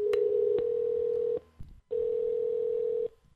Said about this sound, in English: And finally, a phone number, and it's time to dial her up. Let's see what happens.